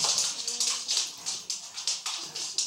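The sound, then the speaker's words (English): A dog excitedly greeting its master, whom it had not seen in a while, with a quick, steady run of breathy, scuffling bursts, about four per second, moderately loud and with no voices. “He was covered up. He's his master. Hadn't seen him in a while.”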